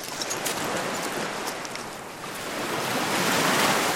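Continuous roar of surf washing onto a shore, broad and hissing, swelling slightly louder toward the end, with some wind buffeting and no voices.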